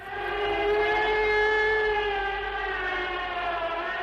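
A loud air raid siren holds a sustained, wailing tone with strong harmonics, its pitch sagging slightly as it drones on steadily without pause, no voices present.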